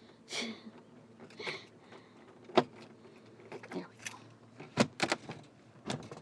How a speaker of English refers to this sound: Of course, it doesn't help to drop the key.